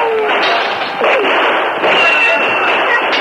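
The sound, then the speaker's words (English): Loud, continuous gunfire from the woods as Indians open fire on a trading post forms a dense, crackling barrage, with several sharper bursts at irregular intervals rising above the steady roar throughout the few seconds. “When the Indians saw no white flag, they opened fire from the woods.”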